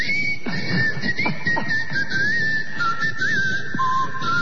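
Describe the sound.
A person whistles a short, wavering melody in one continuous thin tone, fairly clear and steady, over a constant noisy background with a few low thuds.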